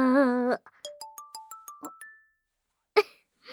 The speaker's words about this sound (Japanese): ちょうどいいタイミングであっくんから電話かかってきた。